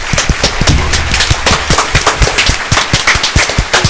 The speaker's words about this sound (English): Stop clapping.